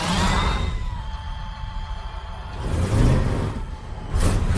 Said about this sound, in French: Alors ça, c'est les courses de voitures qui se passaient dans la rue.